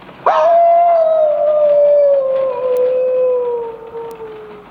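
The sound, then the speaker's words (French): A single long wolf howl, loud, rising sharply at the start then holding a steady mournful tone that slowly sinks in pitch over several seconds before trailing off. “Loup-garou. Loup-garou? Là. Quoi? Là, loup.”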